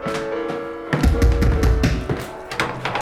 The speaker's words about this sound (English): my God, I have been knocking forever. Three knocks is not forever,